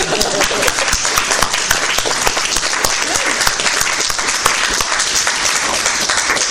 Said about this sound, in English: Applaud for all five of us, please.